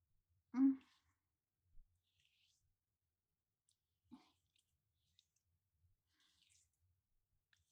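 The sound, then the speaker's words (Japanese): A few soft, crinkly rustles and squishy presses of hands kneading the buttocks of a person lying face down in paper underwear during a massage, spaced out with quiet pauses between them, fairly gentle, with no talking. “紙パンツ履いたお尻、もみほぐしますね。”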